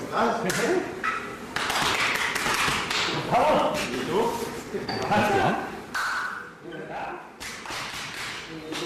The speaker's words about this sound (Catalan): De fet, els cops aquests que escolteu no és que estiguin apallissant a ningú, és que, com ja sabeu, per mantenir la seva masculinitat ferma s'han de pegar molt fort l'un a l'altre quan s'abracen a l'esquena